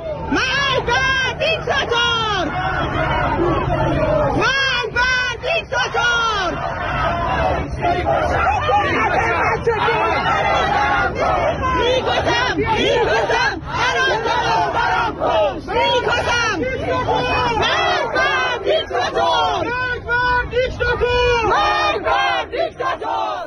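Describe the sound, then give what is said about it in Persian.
A large crowd of protesters chants together at a street protest gathering in Sattarkhan, Tehran, Iran, many voices shouting loud, rhythmic slogans in repeated bursts, with a constant rumble of crowd noise underneath throughout. “صدای یکی از این تجمعات رو بشنویم.”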